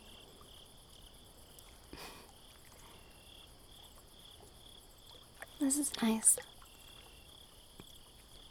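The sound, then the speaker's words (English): A steady, continuous chorus of crickets trills on a quiet moonlit night, with a brief quiet voice speaking over it near the end before the insects carry on alone. “The moonlight, the quiet, the crickets.”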